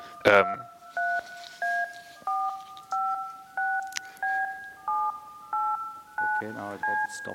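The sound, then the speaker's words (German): A steady sequence of about ten DTMF telephone dialing tones, generated to talk to a Fritzbox, each a short beep of two frequencies at an even pace, after a brief burst of voice at the start, with faint talk underneath near the end. “Hier hört ihr jedenfalls DTMF-Pulse, das war eine Hörprobe.”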